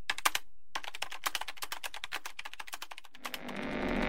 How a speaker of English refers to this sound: I sat down and began to type, my fingers flying over the keys as if possessed.